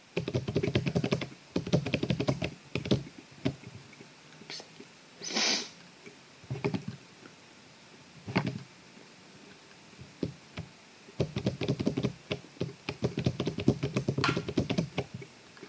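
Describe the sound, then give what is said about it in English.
Rapid clusters of light taps and clicks as a password is typed with 6-dot braille input, coming in bursts separated by brief pauses, with one short breathy hiss partway through and no talking. “And as I'm typing this, it's showing it to me for a second on the display, and then it switches to next arrow.”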